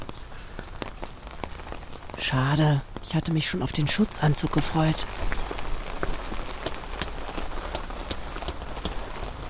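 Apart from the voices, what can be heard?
heavy rain pouring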